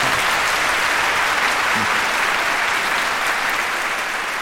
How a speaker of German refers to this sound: Und das muss man lange studieren und dafür hat er endlich einen großen Applaus verdient.